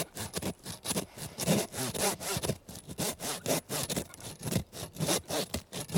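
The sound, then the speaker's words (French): A hand saw rasps steadily back and forth through ribs, about a dozen quick strokes in an even rhythm, fairly loud, with no talking. “Puis après, on doit scier les côtes.”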